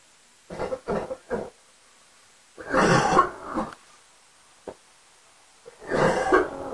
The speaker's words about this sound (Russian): А нет, тогда, блядь, рот закрой и слушай, как я кашляю, тварь, ёбаная.